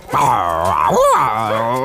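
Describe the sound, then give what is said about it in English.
A voice imitates a dog, the pet dog Pila, who looks a bit like a lion, giving a drawn-out run of yipping, whining barks with a rising and falling pitch. It is loud and continuous for about two seconds. “It's my dog, Pila.”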